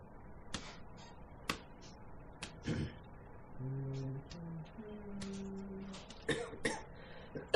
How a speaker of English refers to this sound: I've been coughing for like 4 weeks straight, so I think I'm almost over. But I hope so. Yeah, sounds like it.